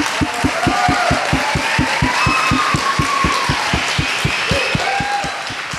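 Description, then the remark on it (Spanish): A crowd applauds loudly and steadily for several seconds for the creators of the Flora Innova project, a dense wash of clapping with a strong rhythmic beat running through it and a few faint cheers or whistles on top. “Para quienes pido un aplauso muy fuerte, por favor.”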